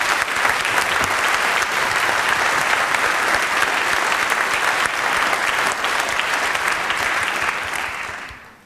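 Sustained audience applause, a dense steady clatter of many hands clapping at an even level for about eight seconds, then fading out quickly at the end.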